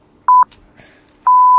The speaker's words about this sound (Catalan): Oh, estan sonant l'hora, sí, l'hora en punt.